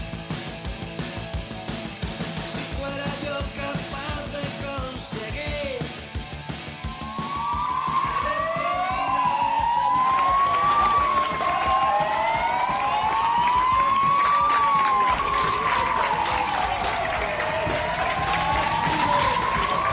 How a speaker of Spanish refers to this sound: Eso que acabamos de escuchar de fondo es el sonido de los coches patrulla que anoche se concentraban ante las puertas de la Fundación Jiménez Díaz, rindiendo así su homenaje a todos los sanitarios.